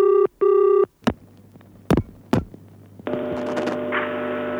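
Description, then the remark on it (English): An outgoing call to a detective agency's advertised phone number rings out with one loud double burst of ringback tone. Several sharp clicks follow, then a steady, buzzy electronic line tone continues to the end. “I didn't seem to need the service of a holistic detective agency, but my curiosity got the better of me, so I decided to dial the advertised phone number and see what would happen.”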